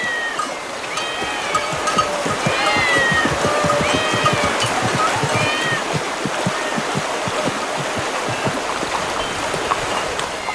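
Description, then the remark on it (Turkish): Numerous cats meow at once in a city temple, their overlapping cries rising and falling continuously over a steady, watery background rush, loud throughout with no voices. “Bunca kedi burada ne arıyor?”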